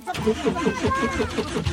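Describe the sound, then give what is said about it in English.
An ancient pickup truck's engine is cranked over in the West Bank, the starter churning in a steady, rapid chug-chug rhythm as the motor struggles to catch, taking a few minutes to start. “It takes a few minutes for him to coax the engine to life.”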